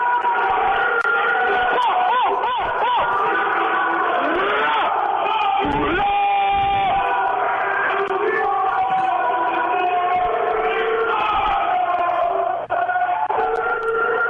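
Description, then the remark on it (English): A loud, dense crowd of men shouting and yelling over one another in Bordeaux jail, continuous and chaotic for the whole stretch, with rising whoops and hollers cutting through the din of a jail block. “Yo, you guys wanted some background noise from Bordeaux?”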